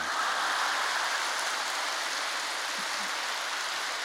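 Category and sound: crowd, audience applause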